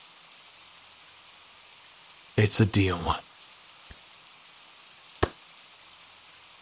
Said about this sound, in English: Now let's get out of this rain, and get you dried off too.